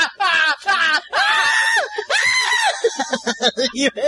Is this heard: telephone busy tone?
no